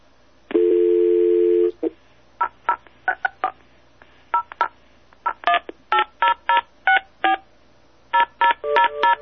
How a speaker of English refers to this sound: You're going to dial it, right? I'll dial it, yeah. Okay, so we'll hang on while Lucky dials TELUS.